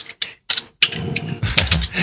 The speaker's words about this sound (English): Gee, you're not typing into Wikipedia, are you? No, I'm just saying what day was shot, so we get the date here.